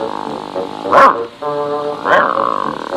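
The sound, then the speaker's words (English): A low, sustained dog-like growl, voiced by a person imitating the dog Wolf, rises into two sharper, louder snarling bursts about a second apart, fairly loud throughout. “Wolf dropped his sandwich and began to growl.”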